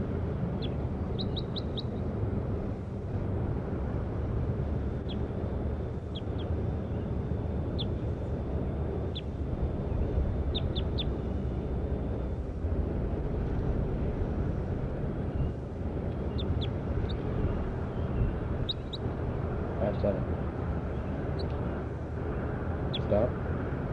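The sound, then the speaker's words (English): Short, high-pitched chirps of a bird labelled 5-7 come in scattered clusters of two or three notes over a steady low rumble of background noise, with a faint thin whistle-like tone running through the first half. “Start recording bird 5-7.”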